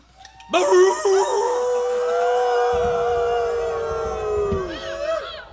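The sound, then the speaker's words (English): Several people howl together in imitation of dogs, a loud, sustained chorus of wavering, overlapping cries that swells in and holds for about five seconds before trailing off. “How about, in the meantime, since there was a request, why don't we all have a howl?”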